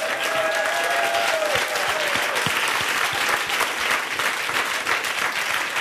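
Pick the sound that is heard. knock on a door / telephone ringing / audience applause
audience applause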